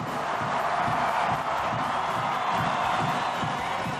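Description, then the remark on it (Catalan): A huge stadium crowd of Iceland national football team fans roars together in the Viking war cry chant, a dense, sustained wall of voices chanting and shouting loudly at a steady level throughout, with faint rhythmic pulses beneath the din. “El crit viking, que uneix la selecció islandesa i la seva afició, es converteix en un dels sons del campionat.”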